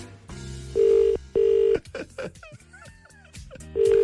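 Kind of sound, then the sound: signal or alarm, telephone ringing tone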